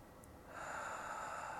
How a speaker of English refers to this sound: And as you continue to do your 5 and 9 breathing, and you blow that situation away, just notice how your view of everything gets wider, gets bigger.